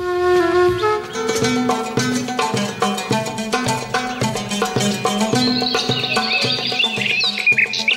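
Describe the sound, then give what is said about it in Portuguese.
Birds chirp and twitter, growing busier toward the end, over a steady rhythmic musical backdrop with plucked tones and a regular beat; no one speaks. “Aqui, os pássaros cantam.”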